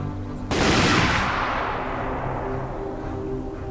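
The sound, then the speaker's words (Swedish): A rifle volley fired by the Reds at prisoners cracks out suddenly as one loud burst, then rolls away in a long, echoing rumble that fades slowly over several seconds. No voices are heard. “I detsamma sköt de röda en skottsalva.”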